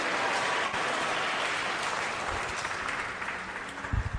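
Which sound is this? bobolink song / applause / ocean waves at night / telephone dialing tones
applause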